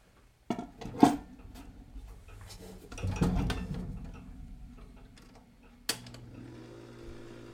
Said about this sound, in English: Little motor noise from the 78 player.